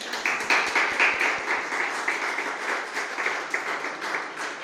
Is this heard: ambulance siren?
no